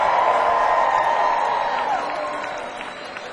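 An audience applauds and cheers in a dense, steady roar of clapping mixed with crowd voices, staying loud for a couple of seconds before gradually tapering off.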